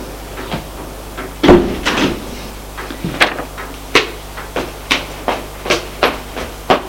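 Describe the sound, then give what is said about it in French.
Elevator doors rumble and thud, then a steady series of footsteps walks off at an even pace in an otherwise quiet space as a woman steps out of the elevator at her floor. “Sort de l'ascenseur.”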